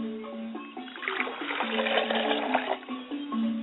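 Water pours steadily into a glass for a few seconds, poured as an offering for Richard's spirit; a splashy trickle with a faint ringing tone that shifts as the glass fills.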